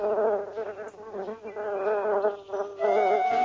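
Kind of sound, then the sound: insect, bee buzzing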